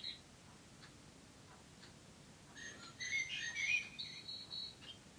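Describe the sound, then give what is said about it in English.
Faint ticking gives way to a burst of chirpy, tweeting birdsong from a bird clock marking 8 o'clock, a few seconds of bright whistled calls with no talking. “Oh, there's my clock.”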